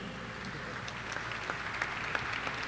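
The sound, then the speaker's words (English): A crowd applauds for Bruiser Flint, a dense wash of many hands clapping steadily at moderate volume with scattered sharper claps standing out, holding even for the whole stretch without any talk. “Yeah, give him an applause, sure.”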